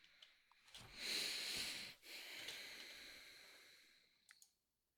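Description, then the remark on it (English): A video game creature's heavy, raspy breathing: a long hissing inhale followed by a drawn-out, wheezy exhale, loud and breathy, ending with a couple of faint clicks. No one speaks. “Yeah, my dude's got some serious heavy breathing issues.”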